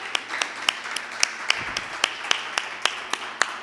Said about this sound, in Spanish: A ver, un aplauso para los papás.